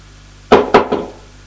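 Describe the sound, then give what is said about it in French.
A valet knocks three times on the wooden door of a first-floor salon in a count's house, the first two knocks firm and evenly spaced, the third quicker and softer, then quiet. No voices. “Le valet fermé a tapé à la porte.”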